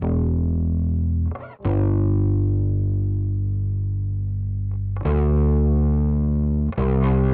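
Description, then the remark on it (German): A bass guitar track played through an Ampeg B15N tube amp emulation plugin, distorted, plays long sustained notes, thick and gritty with a crunchy amp tone, changing pitch a few times with brief gaps between notes. No voices. “B15N ist das, eine Nachbildung von dem Röhrenverstärker, und die klingt mit dem Amp so eingestellt wie folgt.”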